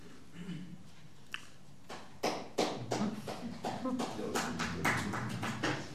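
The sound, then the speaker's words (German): An audience bursts into applause: after a couple of scattered early claps, sharp, irregular hand claps build into a loud, sustained round of clapping that carries on to the end. “Ja, nur in die Vollen mit dem Applaus.”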